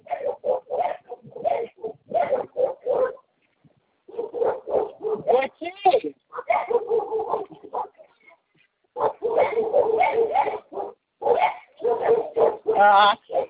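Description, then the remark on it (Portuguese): A dog barks in repeated short, loud bursts, with people talking intermittently between and over the barks. “O cachorro não pega, não?”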